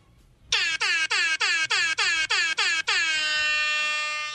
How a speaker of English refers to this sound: I'm surprised it's taken us 3.5 hours to get to that, honestly. Almost made it, guys. We almost made it. We almost got through without the air horn.